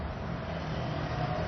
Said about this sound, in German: Wir nähern uns einer Gasse, wo es Straße, wo es viel Verkehr gibt. Da fahren doch einige Autos, wie man hört.